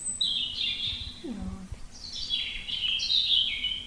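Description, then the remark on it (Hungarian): A European robin's song plays through a small speaker on a bird-sound button board when a button is pressed: high, fluid warbling phrases with thin trills, broken by a short pause, slightly tinny and mid-loud, with a faint low thump mid-way. “A vörösbegy.”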